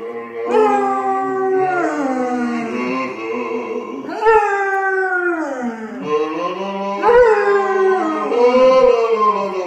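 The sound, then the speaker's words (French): A dog howls loudly in long, sliding, wavering notes while a man sings along with it in the shower, the two voices rising and falling together in three drawn-out phrases. “Un homme chantant en chœur avec son chien sous la douche.”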